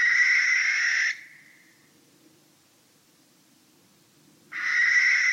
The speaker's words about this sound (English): And next thing there was this almighty screeching, hissing sound that scared the hell out of me for a couple of seconds. And we realized then it was a barn owl.